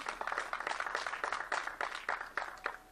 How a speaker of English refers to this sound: Yeah, that deserves a round of applause.